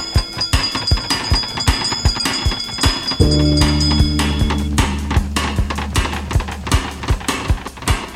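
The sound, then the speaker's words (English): A bell rings in a fast, steady series of sharp metallic strikes, loud, with a deep humming tone swelling underneath for a couple of seconds midway. No one speaks. “Us a hint by ringing a bell.”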